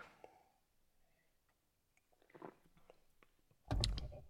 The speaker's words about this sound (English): Need another sip of coffee. Whew.